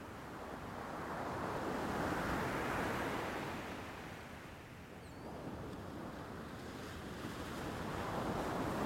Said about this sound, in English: Now you're completely content to lie back, relax, and listen to the sound of the waves.